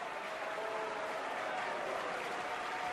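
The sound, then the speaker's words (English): Loud, sustained audience applause at a Metropolitan Opera broadcast, with Natalie Dessay applauding hard, fills the whole stretch, a dense steady wash of many hands clapping at an even level with no pauses. “Loud applause coming from Natalie. Big applause, very hard.”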